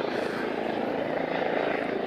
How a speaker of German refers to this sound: Toll, ein Heli.